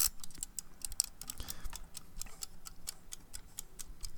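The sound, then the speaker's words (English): A chat timer ticks steadily, a rapid, regular series of crisp clicks repeating about six times per second, moderately loud with no voices over it. “Okay, well, let's fire up the chat timer”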